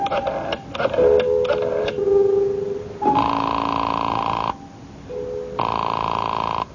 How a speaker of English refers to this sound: I had an uneasy feeling in the pit of my stomach as I went to a phone and dialed my number and waited for it to ring.